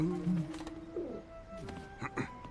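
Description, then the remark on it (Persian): A pigeon coos in soft, throaty warbles, a few low rolling calls, followed by brief scattered sounds in a quiet setting. “اما اگه تیر چراغ برق رو بردارن، کبوتر تو قراره کجا زندگی کنه؟”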